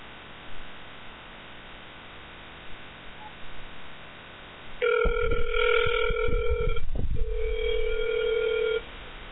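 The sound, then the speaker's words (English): A steady telephone dial tone as a radio host places a call for a live radio show interview, with a buzzy, harmonic hum coming in after a few seconds of faint hiss, broken briefly by a few clicks before the tone resumes and then cuts off. “I'm about to get him on the phone in just a minute here.”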